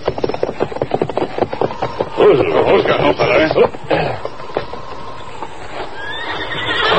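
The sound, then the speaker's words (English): Hooves clip-clop in a quick, steady rhythm, then a horse sheltering by a line shed lets out a loud whinny with a rising and falling neigh, followed by quieter snorting and shuffling. “Horse take shelter by a line shed just ahead.”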